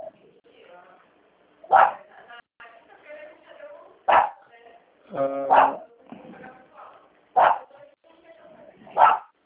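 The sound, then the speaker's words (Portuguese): A dog barks sharply about five times at irregular intervals, loud, with quieter speech-like murmuring between the barks. It is the speaker's own dog, angry at noise from the neighbor. “O cachorro tá latindo.”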